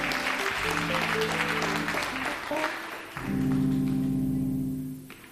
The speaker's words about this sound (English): Let's give God a hand clap of praise in here as we stand to our feet.